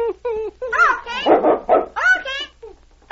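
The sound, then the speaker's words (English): A dog named King lets out a rapid run of short barks and yips mixed with high, wavering whimpers, loud, with brief pauses between the bursts. “See, the dog obeys him.”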